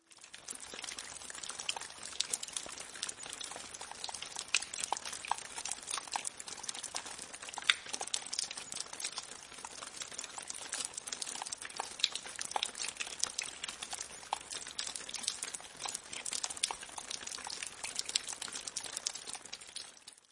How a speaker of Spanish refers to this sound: El sonido sorpresa de hoy fue el de las gotas de lluvia. A veces, cuando escucho las gotitas de lluvia, siento el deseo de comer helado, de jugar en la casa o de dormir.